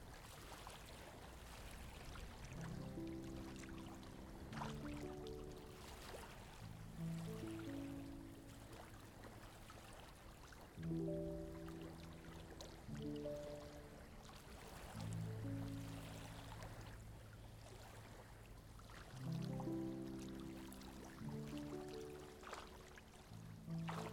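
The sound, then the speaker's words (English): Steady, gentle flowing water hisses softly underneath calm music, whose low sustained chords swell and change every few seconds. “The water is relaxing.”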